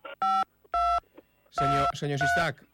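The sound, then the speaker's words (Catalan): Telephone keypad tones cut in as short, steady electronic beeps: two separate presses, then longer tones sounding over someone talking on a phone line. “no sé si està vostè amb els lliures i si té opció de poder posar l'opció normal del telèfon, perquè estem sentint la interrupció de les tecles del telèfon.”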